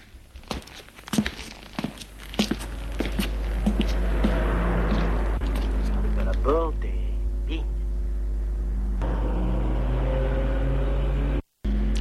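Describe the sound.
The engine of a black Rolls-Royce car idles with a steady low rumble after a few clicks and footsteps, faint voices murmuring over it, until it cuts out briefly near the end; a chauffeur opens the rear door.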